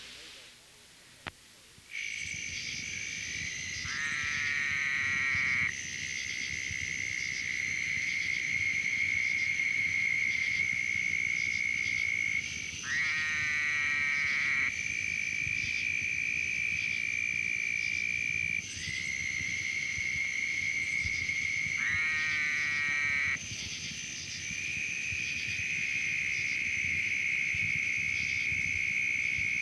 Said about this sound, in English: Fowler's toad, Bufo woodhousii fowleri, is another northern species which invades Florida only in the larger river valleys of the western panhandle. Heard here with a chorus of southern toads, the call of Fowler's toad is a nasal wah.